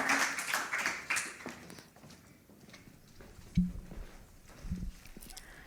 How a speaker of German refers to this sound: einmal großen Applaus für Christian Zwerz